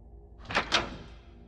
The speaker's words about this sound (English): One day I was in my kitchen, cooking. My boyfriend was at work, and I was by myself, when I heard what sounded like the click of a door.